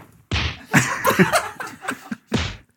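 A slap sound effect plays: a sharp, loud smack, then a busy burst of layered hits, and one more crisp slap at the end, punchy.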